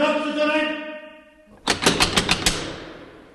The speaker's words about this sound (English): guards would scream or slam the metal door locks back and forth to wake them, and he demonstrates.